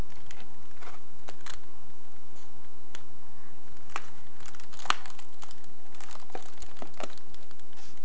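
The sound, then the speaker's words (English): Irregular crinkling and crackling of a balloon being chewed and squeezed by a child, with sharp scattered crackles over a steady low hum and no talking. “Chewing on your balloon.”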